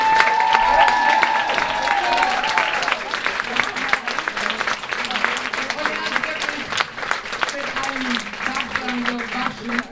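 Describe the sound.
A crowd at a German Schlager show applauds the pianist steadily for the full ten seconds, a dense wash of clapping with some cheering and indistinct voices mixed in, a few whistle-like tones rising above it early on.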